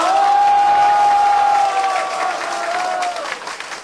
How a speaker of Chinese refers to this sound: 啊，要不要掌声鼓励一下？